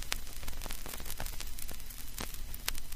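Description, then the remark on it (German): Steady soft surface hiss from a vinyl record as the stylus needle runs along it, dotted with irregular crackles and sharp pops scattered throughout, quiet with no voices or music. “allein wegen diesem leichten Rauschen und Kratzen liebt Charlize die Musik von der Schallplatte”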